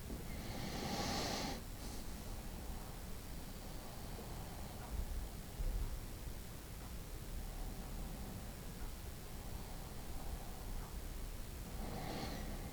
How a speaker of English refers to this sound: And just at the beginning of the path, there is a small ruddy pig snuffling. Pushing its snout deep into the earth, sniffing.